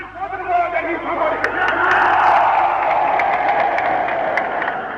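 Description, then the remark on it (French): Tens of thousands of people massed on the main square of Accra at midnight, as Gold Coast becomes independent Ghana, roar and cheer while Prime Minister Nkrumah mounts the tribune. A dense, sustained wash of voices swells after the first second and holds loud, with scattered sharp claps and shouts. “Sur la grande place d'Accra, plusieurs dizaines de milliers de personnes sont massées, tandis que M.”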